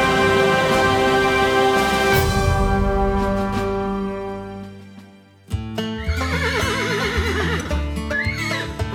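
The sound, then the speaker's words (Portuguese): A horse whinnies with a wavering, trilling neigh, then neighs again shortly after, with hooves clip-clopping. Sustained tones fade out before the neighs, and no one speaks. “Se ainda se lembra dos filmes de cowboys, deve lembrar-se do famoso Pony Express, um serviço de correio a cavalo que distribuía correspondência cruzando os territórios selvagens dos Estados Unidos.”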